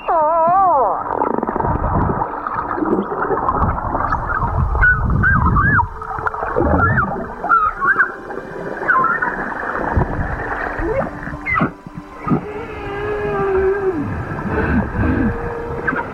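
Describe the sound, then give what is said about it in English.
A pod of humpback whales calling underwater in Bermuda around a group of snorkelers with cameras, a dense chorus of overlapping moans, rising whoops and wavering squeals, loud and continuous over a low watery rumble, with no talking. “This pod of humpback whales in Bermuda surrounded a group of snorkelers”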